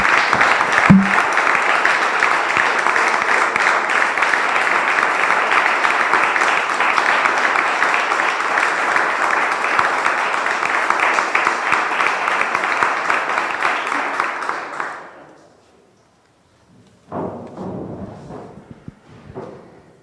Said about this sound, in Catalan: la Sala de les Corts ara continua aplaudint aquest pregó